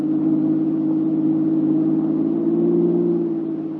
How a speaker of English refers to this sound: Your car roars past Mary's car within a few miles, and you leave her behind.